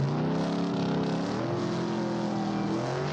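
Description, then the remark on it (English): A car engine revs and hums steadily as the vehicle drives, loud, with a throaty rumble that shifts slightly in pitch throughout, and no voices. “The kids find all of that just by getting in their cars.”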